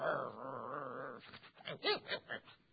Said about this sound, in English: And Dr. Hudson said he walked around the back of that little trailer with those three or four coon dogs in there. They were snarling.